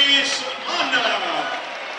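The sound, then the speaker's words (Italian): A stadium crowd at a Parma football match applauds a substitution, Som going off and Mann coming on, a steady, dense wash of clapping and voices that holds at an even level for the full two seconds without clear individual claps. “Applausi comunque anche per Som e buona accoglienza per Mann, c'è bisogno anche di lui.”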